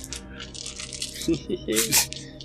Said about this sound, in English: And furthermore, as you guys go up, roll me perceptions as you get up here. Alrighty. 25. Forgot to get my dice out.